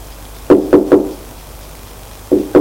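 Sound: knocking on a door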